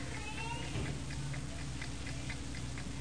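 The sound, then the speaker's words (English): An alarm clock ticks steadily and evenly, each tick light, over a low background hum, with a brief faint cry near the start and no one speaking. “You hear the tickings of this clock?”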